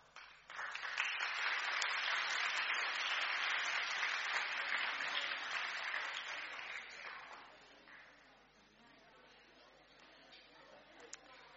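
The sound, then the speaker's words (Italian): A crowd claps steadily in a dense, crackling burst lasting about seven seconds, then the applause thins out and fades to a faint murmur with a few scattered claps. “Gli facciamo gli applausi lo stesso.”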